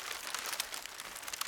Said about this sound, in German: Eine Zeitung oder Papier. Es wird auch gefaltet oder es raschelt.